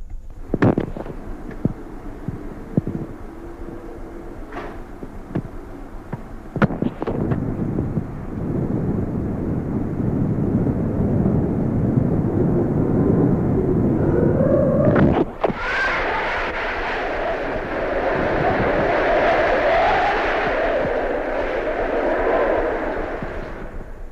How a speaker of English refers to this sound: People are recording the sound of the wind on their personal tape recorders.